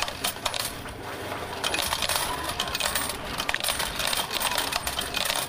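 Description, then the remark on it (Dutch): A steady stream of coins clattering and jingling down, like a payout from a machine, continuing densely for several seconds with bright metallic clinks and no voices. “Nummer 1, je hebt 40 muntjes.”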